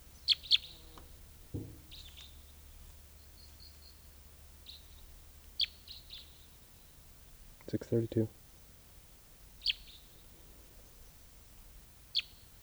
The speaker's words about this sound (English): Stop. Here's the wild male who is singing.